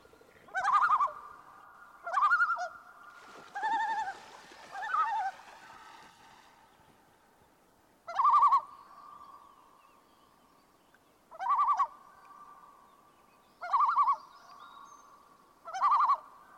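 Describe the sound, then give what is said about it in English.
A common loon gives its tremolo call: about seven loud bursts of rapid, quavering, laugh-like notes at a mid pitch, separated by irregular pauses, with no talking. “This next call is the tremolo. It seems to be used to express alarm or distress.”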